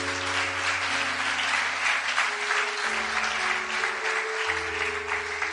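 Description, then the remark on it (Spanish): An audience applauds the Lord, clapping steadily and densely for several seconds, a continuous wash of applause over sustained keyboard or organ chords that shift pitch twice. “Dele aplauso al Señor.”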